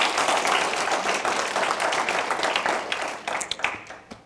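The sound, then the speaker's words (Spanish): An audience bursts into steady applause in honor of César Chávez, dense overlapping claps, then thinning out into a few scattered, sharper claps before fading. “Si quieres dar un aplauso a César Chávez.”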